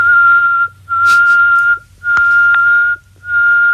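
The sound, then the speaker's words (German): A person whistles an imitation of a nightingale's sobbing call: four long, steady, loud whistled notes on one pitch, each held about a second with brief pauses between, no speech. “Das eine ist das sogenannte Schluchzen der Nachtigall. Das sind sehr laute, wehmütige Pfeifer, die sich ungefähr so anhören.”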